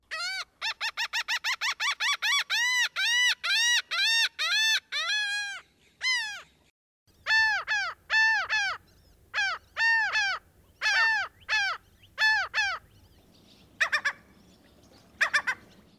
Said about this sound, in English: If you guessed a laughing gull, you were right. The laughing gull is one of 16 gull species whose occurrence has been documented in Virginia.